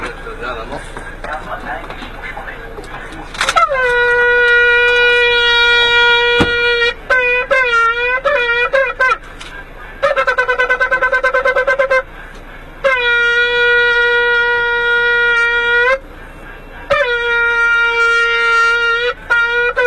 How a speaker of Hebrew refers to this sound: לפני כל נסיעה אתה תוקע בשופר? לפני שאנחנו יוצאים מהעיר, אחרי שכולם כבר נמצאים על האוטובוס. יש לי הקלטה של נוסע, שיצא מהעיר, תקשיבו לה, נהג התוקע, בבקשה.